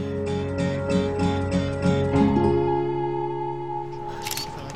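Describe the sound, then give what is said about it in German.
A rapid run of camera shutter clicks, about seven in quick succession, over a steady tonal music bed, followed by one more faint click near the end. “Weißt du, am liebsten würde ich dich den ganzen Tag fotografieren.”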